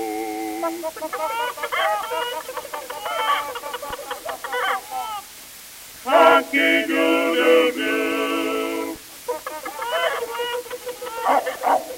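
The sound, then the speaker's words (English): Agitated chickens squawk and cackle as a dog goes at them, in three loud bursts, with the middle outburst the most intense and frantic, separated by brief lulls. “that nasty dog is at them chickens again.”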